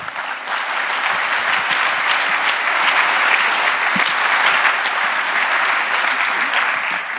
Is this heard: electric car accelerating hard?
no